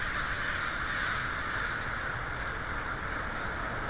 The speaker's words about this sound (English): Pissed off the crows, that's for sure. That was weird.